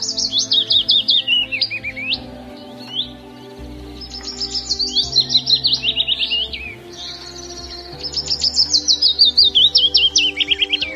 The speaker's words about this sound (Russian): А это голос пеночки-веснички.